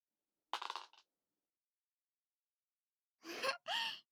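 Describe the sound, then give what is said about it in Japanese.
A short clatter like dice being rolled and tumbling across a surface, landing on a 2, followed after a pause by two breathy vocal gasps. “それじゃあちゃんと稼がないとね。はい、サイコロ振って。”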